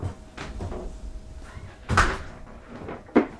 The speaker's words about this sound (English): When I walk in her front door